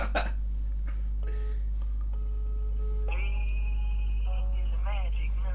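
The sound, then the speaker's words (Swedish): A phone call's ringing tone plays over a low steady hum, with clear electronic tones holding for a few seconds and then giving way to quick warbling pitch patterns. “Svara. Kom igen. Svara då.”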